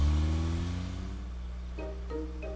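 A car engine starts and revs, a loud, low rumbling drone that climbs slightly in pitch, with a few short higher tones near the end and no talking.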